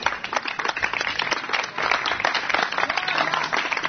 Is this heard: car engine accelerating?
no